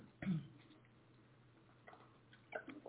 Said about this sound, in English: I don't know why I'm coughing.